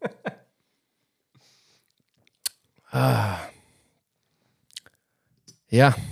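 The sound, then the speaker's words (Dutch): A small sip of beer: faint mouth clicks and smacks, a brief wet slurp and swallow, a few quiet clicks, then a short voiced exhale or reaction at the end. “Ik ga even één klein slokje nemen.”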